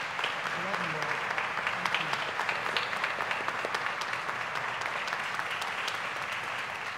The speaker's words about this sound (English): So, folks, thank you for supporting us, and let's give these kiddos and adults a round of applause for their work this week.